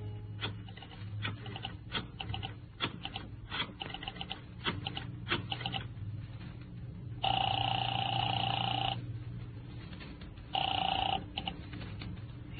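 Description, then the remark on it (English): A telephone rings in Marty Crane's apartment, heard thin and tinny through the receiver of a call from a phone booth: two long rings separated by a pause, preceded by handset clicks and clatter. “I found a phone booth and called Marty Crane's apartment.”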